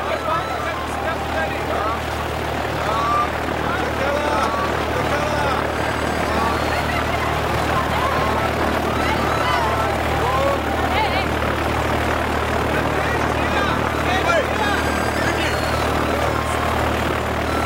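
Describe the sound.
A steady, loud propeller engine drones as a propeller plane taxis slowly along a dusty runway at a tiny, dilapidated airport in Tanzania, with indistinct voices murmuring underneath throughout.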